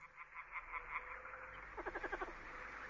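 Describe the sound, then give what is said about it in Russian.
A frog sitting at a swamp croaks in a steady run of pulsed calls, then breaks into a quicker rattling burst, clear with no voices. “Видит, сидит лягушка.”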